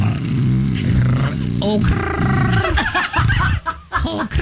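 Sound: imitated snoring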